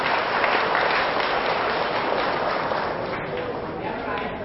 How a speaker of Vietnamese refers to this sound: Hãy dâng cao một tràng vỗ tay để tán thưởng những người không nghiện thuốc.